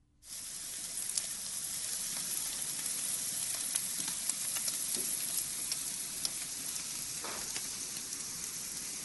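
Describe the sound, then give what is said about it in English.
Barbecue sizzling steadily, a dense, bright crackling hiss with scattered pops and sharp snaps throughout, holding an even loudness from start to finish with no voices. “All right, here's the barbecue.”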